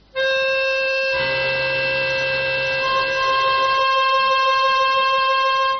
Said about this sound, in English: So if I play two notes here, which is a seventh, the seventh one is shouting out for the octave. You will hear it.